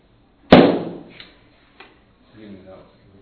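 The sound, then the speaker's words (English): A balloon bursts from a flame with one loud, sharp pop that quickly fades, followed by a faint click and a brief low murmur of voices. “I have here a balloon and I have fire.”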